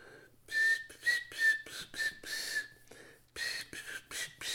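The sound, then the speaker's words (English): A person whistles a short, breathy tune of several notes, fairly loud, with airy gaps between the phrases and no talking. “He started whistling.”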